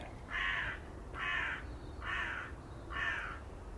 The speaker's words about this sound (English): Confirmed by the crow.